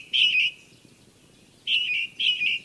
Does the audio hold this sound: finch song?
yes